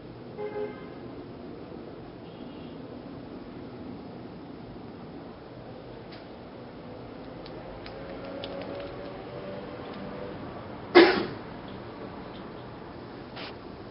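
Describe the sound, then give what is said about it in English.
A steady low rumble of cars on the street outside, with one sharp, loud burst rising briefly above it near the end before the hum settles again. “If at first you'd like to use the sounds in the room, my voice or the cars from the street, the occasional buzzers from the front door to ground you in the present, you can do that as well.”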